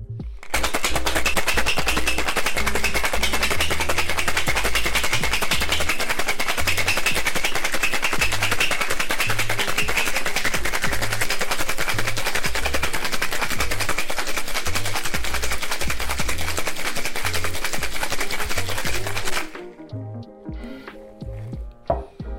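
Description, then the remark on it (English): Ice rattles hard and fast inside a cocktail shaker tin, shaken hard to break up the ice and dilute a Last Word cocktail until the tin feels cold: a loud, dense, rapid clatter that runs steadily for about twenty seconds before stopping abruptly, followed by a few quieter clinks. “Now when we're shaking, we want to make sure that we're shaking hard because we want to break up the ice”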